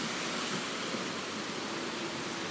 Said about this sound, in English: I can smell from 150 meters away, and not direct, the salt smell. This rain and wind is coming from the sea, directly.